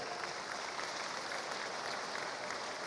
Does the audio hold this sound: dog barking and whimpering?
no